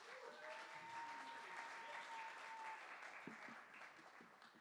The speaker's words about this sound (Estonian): Teeme suure aplausi talle.